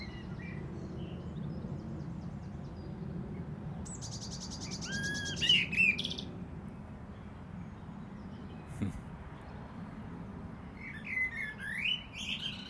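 A blackbird sings in short bursts of bright, fluty warbling phrases with pauses between them, set over a steady low rumble of background noise.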